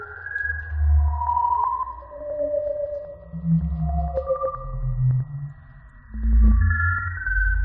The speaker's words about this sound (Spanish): Esto es un agujero negro. Esto es un agujero negro. La mayoría son agujeros negros.